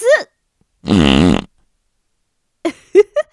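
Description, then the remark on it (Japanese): One loud, drawn-out fart from a woman, about half a second, buzzy and wavering, sits between brief snatches of a voice talking before and after it. “その度にくっさーいおならで目覚ましてあげるから。”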